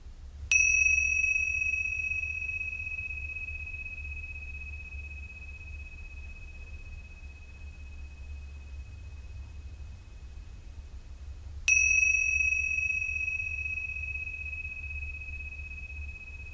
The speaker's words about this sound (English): If you are ready to return to the world of activity, at the sound of the bells, intentionally carry the renewed connection to your natural generosity wherever you go.